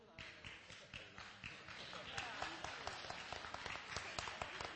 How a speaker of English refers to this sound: Listen, I know you clapped loud, but there were six of you.